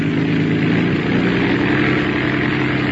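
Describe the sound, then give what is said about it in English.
A vehicle engine revs, holding a loud, steady rumbling drone with a throaty low hum throughout the few seconds, no voices present; the engine is revved up again to be checked by ear. “Well, the engine's doing as well as you can expect in this weather.”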